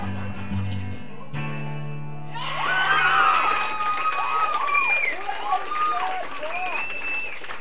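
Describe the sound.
A held musical chord fades out, then an audience erupts into loud, overlapping yelling and cheering, many voices shouting at once in a busy live-venue crowd.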